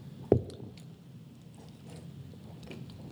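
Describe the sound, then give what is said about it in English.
A plastic water bottle is handled: one sharp crackle near the start, then faint scattered crinkles and clicks over a low background hum, with no one talking. “Can I get another bottle of water?”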